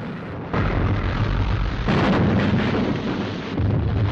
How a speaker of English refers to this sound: The Amethyst exchanges fire with the guns at the fort. Geysers of spray explode high into the air, just short of the Amethyst, as the fort guns gauge their range.